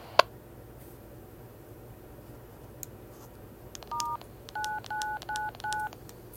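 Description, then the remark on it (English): Telephone keypad DTMF tones dialing a connect number on an EchoLink system: five short, clear dual-tone beeps dialed in quick succession near the end, over a steady low background hum, with a faint click early on. “The connect number that you dialed does not exist.”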